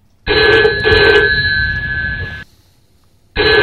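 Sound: telephone ringing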